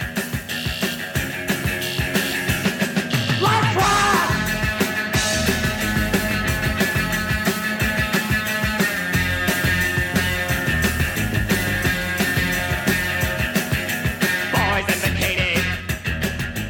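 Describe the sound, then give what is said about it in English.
A loud, frenzied rock band rave-up closing the Warner Brothers version of a 1979 single pounds along at full tilt, with dense driving drums and guitar, and a couple of high shrieking vocal screams cutting through near the start and end. “closed with a gale force rave up, egged on by screams”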